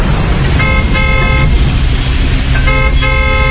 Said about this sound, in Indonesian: Tapi perempuan itu tetap terlihat berdiri di depanku. Aku membunyikan klakson lagi.